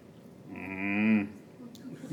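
A single cow moos once, a long low bellow lasting under a second, fairly loud, with quiet background before and after.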